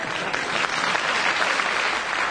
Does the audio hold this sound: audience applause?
yes